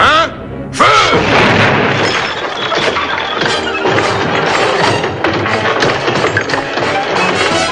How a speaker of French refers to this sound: grâce aux coups de canon qu'il se plaît à tirer à l'heure dite